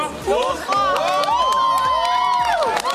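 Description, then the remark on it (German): A crowd of school students cheers and whoops loudly and continuously, with overlapping excited shouts and some clapping, at the launch of a giant helium balloon carrying a camera and measuring instruments at Sömmerda-Dermsdorf airfield. “Der Jubel beim Start auf dem Flugplatz Sömmerda-Dermsdorf war groß.”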